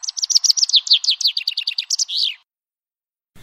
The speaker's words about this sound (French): Lorsqu'une balade porte nos pas jusqu'au bord du littoral, les sons que lancent ces oiseaux marins sont ceux qui accompagnent nos oreilles. Bien sûr, goélands et mouettes apparaissent d'abord comme des râleurs et leur activité semble bien frénétique.